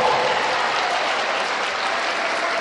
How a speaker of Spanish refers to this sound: Ahí está, ahí hay otro aplauso, mire. ¿Para quién llegó?